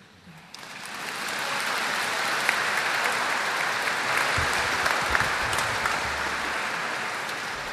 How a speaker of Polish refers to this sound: Chcę jeszcze raz, kiedy będziecie klaskać, dołączyć się swoim oklaskiem dla mojego Pana, dla naszego Pana, aby odebrał chwałę za te 25 lat łaski, no i naszego życia, które gdzieś tutaj w cichości sobie wiedziemy.